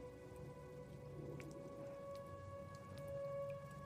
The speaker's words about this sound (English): Leo opens his eyes to find droplets trickling down around them. It intensifies to a full-on rainstorm.